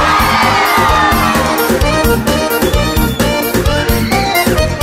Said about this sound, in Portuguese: Quem é casado dá um grito, ei! Quem é solteiro dá um grito.